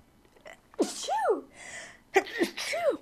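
Two loud sneezes in succession, each with a sharp intake of breath followed by an explosive burst, separated by about a second of quiet.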